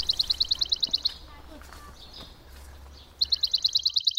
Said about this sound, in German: Wenn man ganz, ganz leise ist, hört man auch die Spatzen. Hört man die?